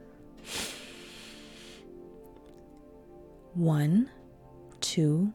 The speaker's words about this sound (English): Slow, steady breathing. 1, 2, 3. Inhale.